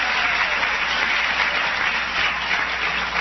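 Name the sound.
crowd cheering and applauding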